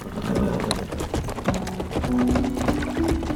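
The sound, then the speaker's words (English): Several ridden horses' hooves clop steadily across a heavy wooden castle drawbridge over a moat, fairly loud, their hollow knocks overlapping in a dense, uneven rhythm with faint creaking underneath. “They rode on across the drawbridge, the heavy wood hardly shaking under the weight of the horses, riders, and Chappie.”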